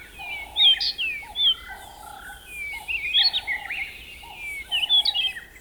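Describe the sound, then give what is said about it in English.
A dense dawn chorus of many birds singing at once, bright overlapping whistles, trills and chirps layered over lower repeated calls, continuous and lively with no talking. “This is where birds of many species start singing loud and proud in the faint light of early morning.”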